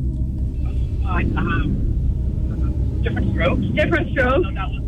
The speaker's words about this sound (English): We're on our way to a college visit right now. We're on the highway.